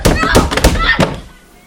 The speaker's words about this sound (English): The heavy, hinged door rattles.